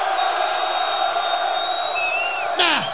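A crowd cheers and roars steadily as one loud, dense wash of voices, with a few high whistles and a sharp whooping shout rising above it near the end.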